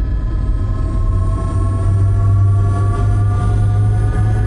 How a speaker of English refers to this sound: Power up the engines and give me a full overview once they're online.